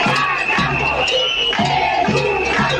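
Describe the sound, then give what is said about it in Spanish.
A loud crowd of protesting educators of children aged 0 to 3 chanting the slogan "No guardamos, educamos" in unison, the voices rising and falling in a steady, repeated rhythm with short breaks between phrases. “Gritaban: no guardamos, educamos.”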